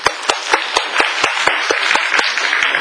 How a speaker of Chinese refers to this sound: 好，所以我们先鼓掌欢迎他们。